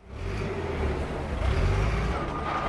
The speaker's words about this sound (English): Just outside a community that bills itself as the sweet melon capital of the world, there's a parking lot full of cars and RVs. It looks like just about the busiest place in Otero County.